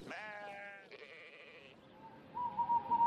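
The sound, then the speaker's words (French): A sheep bleats in a long, quavering cry that shifts pitch midway, followed by softer bleating and faint rustling; no one speaks. “Mais il fallut bien rentrer avant que la nuit ne tombe, et chacun s'en fut chez lui ramener ses brebis.”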